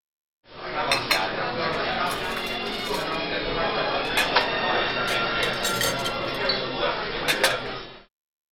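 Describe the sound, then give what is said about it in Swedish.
Busy restaurant ambience: a steady murmur of indistinct chatter with frequent sharp clinks of cutlery and dishes scattered throughout, moderately loud and continuous. “Scen 18. På restaurangen.”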